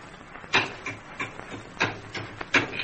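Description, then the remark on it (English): Someone opens a wooden box with a hammer and a jimmy: about seven sharp, woody blows in an uneven rhythm, some loud and others lighter, with faint creaking and scraping between strikes and no voices. “I'll open it up. Hand me that hammer and Jimmy.”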